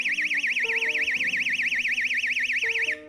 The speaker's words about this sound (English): And I have this little portable alarm. I don't know if you've ever heard these things, but my mom gave me this years ago, and I happened to think to bring it along. So this is what this sounds like.